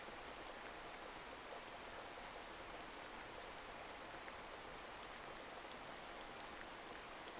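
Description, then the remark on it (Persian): Steady, even rain falls continuously with a soft, dense hiss, scattered drops pattering on a surface throughout. No voices are present; the shower stays constant and moderately quiet from start to finish. “تصور کنید صدای بارون داره خستگی‌ها و نگرانی‌هاتون رو می‌شوره و با خودش می‌بره.”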